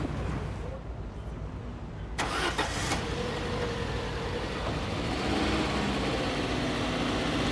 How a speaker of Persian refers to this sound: ماشین پلیس کنار پژو نگه میداره.